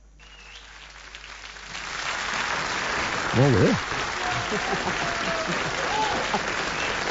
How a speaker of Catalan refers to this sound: Ovació, ovació de gala.